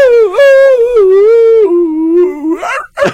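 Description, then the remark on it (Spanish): A loud dog-like howl holds a long wavering tone for about two and a half seconds, then breaks into a couple of short, rough yelping bursts at the end. “Parecía perrito.”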